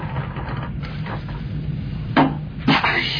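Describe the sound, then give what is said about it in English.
A door being opened: two solid clunks of a handle and latch about half a second apart, over a low steady background rumble. “Now let's check out this door.”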